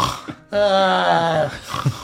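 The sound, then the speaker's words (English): A voice imitates loud snoring: one long, buzzing, rasping snore lasting about a second, framed by softer breathy snorts and grunts before and after. “You hear Mira Yurg, the serpents, and Kenna loudly snoring.”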